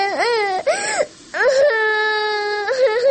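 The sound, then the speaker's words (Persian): A daughter cries and wails in loud, drawn-out sobbing bursts as her mother tells her to stop crying, her voice rising and falling in long pitched wails with brief breaths in between, distressed. “گریه نکو. چرا مرا جیگر خون میسازی؟”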